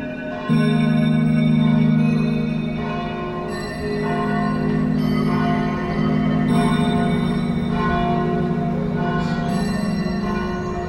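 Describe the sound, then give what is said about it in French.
Abbey church bells peal steadily, their rich overlapping tones ringing and humming continuously throughout, fairly loud and resonant with no one speaking. “Que parfois les cloches servaient peut-être à indiquer une direction aux pèlerins qui passaient par les sables et la baie.”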